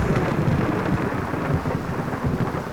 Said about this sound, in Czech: Z následujícího mohutného hromu pocítil, jak živel mocně udeřil nedaleko od něj. Následovala další záře. Silným zaburácením doprovázená už skoro okamžitě. Nespoutaný živel byl čím dál blíž.